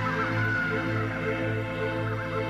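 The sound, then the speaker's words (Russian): Seagulls call loudly over the ocean at sunset, their harsh, honking cries overlapping into a steady, continuous chorus with no voices present. “Маэстро, будьте добры, нарисуйте мне закат на океане. Прекрасно. Оранжево-красные тона, чайки, свежий бриз и парящие повсюду мечтательные мысли.”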